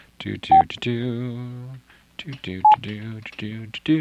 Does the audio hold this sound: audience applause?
no